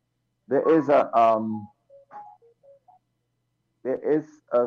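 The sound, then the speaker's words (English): A phone rings with a brief, faint melody of short electronic tones, heard in a pause between bursts of a man talking. “There is, answer the phone.”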